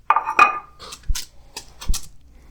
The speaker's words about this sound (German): Man hört das Schmatzen. Also ich glaube, man hat es gerade gut gehört.